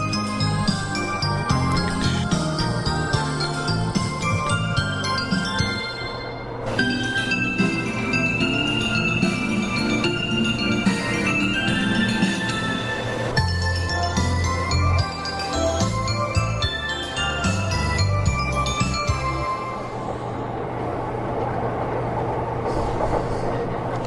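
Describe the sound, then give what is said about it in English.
A bright, chiming train station departure melody plays loudly, its short tune looping several times over a steady hum of station and train noise. “So we do try and keep things current here at Vancouver FM for your train departure melody pleasure.”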